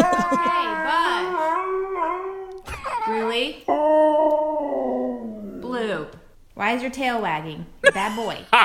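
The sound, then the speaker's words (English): A dog howls and yowls in long, wavering, pitch-bending phrases while being scolded, loud and expressive, broken by a few brief pauses as it keeps vocalizing. “Oh, I got to give it up to that dog. That's hysterical.”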